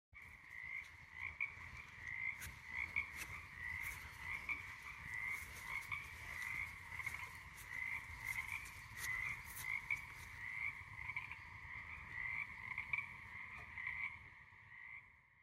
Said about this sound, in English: They wrote, I recorded this chorus of frogs from my front yard on Salt Spring Island, British Columbia, while I was taking my dog out to do her business. Let's listen to it.